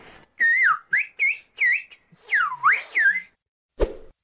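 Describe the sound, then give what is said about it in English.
A clear whistle glides up and down through a quick series of syllable-like bursts, a spoken English phrase rendered as whistled English, followed by a short click at the end. “Like, take a listen to these recordings of whistled English,”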